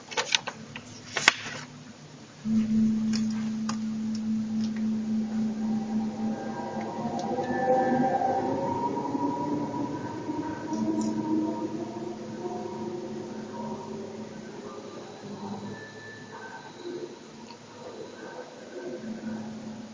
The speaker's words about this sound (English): Train station.